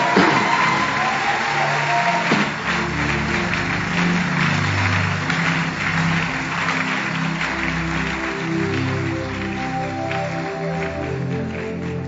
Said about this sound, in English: Okay, if you want to clap, go ahead and clap.